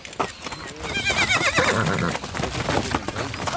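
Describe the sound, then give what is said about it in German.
A horse whinnies loudly with a wavering, rising-and-falling neigh while hooves clip-clop steadily beneath it, continuous throughout, as a rider swings up onto it with a lasso to drive cows through a gate in the dust of red earth. “Und dann, wenn er sich plötzlich hoch auf das Ross schwingt und tatsächlich das Lasso schwingt und die Kühe vor sich hertreibt, durch das Gatter im Staub der roten Erde”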